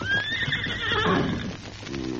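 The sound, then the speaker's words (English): A saddled horse gives a loud whinny with a rising then falling pitch, followed by a few scuffing hoof clops on hard ground. “Leave the horses, Tonto.”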